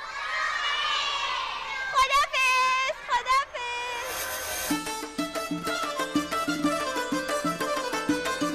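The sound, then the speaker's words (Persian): Several children in a house let out loud, high-pitched screams together in short bursts as a goodbye, then a rising shriek, before upbeat music with a steady rhythm takes over. “باهاتون یه جیغ بلند با بچه های توی خونم خدافزی کنی.”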